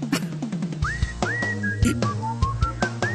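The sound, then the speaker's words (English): A person whistles a short, bright tune with rising slides and held notes during a band's live set on the second stage at the Lilith Fair festival, set against a rhythmic musical backing with steady percussive hits, clear. “Now he's got the belly with the face paint and the person playing doing the whistling.”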